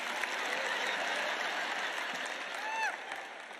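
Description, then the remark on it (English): A crowd of people applauding together, a dense, steady wash of clapping that holds for a few seconds, with a brief cheer rising above it near the end. “Where were the claps on that, for goodness sakes?”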